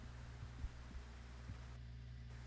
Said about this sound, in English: You know, there's a little bit of noise, but not a lot. Well, that'll be the fans from the PC I'm sitting next to, so.